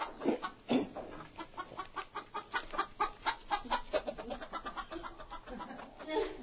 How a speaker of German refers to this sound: Er springt ab, verdreckt, mühsam, den linken Arm in einem blutverschmierten Verband, stolpert, scheucht unermessliche Scharen von gackernden Hühnern auf.